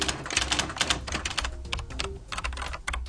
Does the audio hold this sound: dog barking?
no